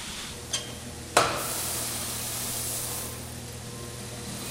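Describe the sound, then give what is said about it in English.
Coffee beans crackle in a hot-air roaster with fins inside that keep the beans floating off its sides: two sharp pops, the second louder, ring out over a steady, broad rush of hissing air that fades slightly toward the end. “When you pull anything out in this mass, you can hear it still crackling.”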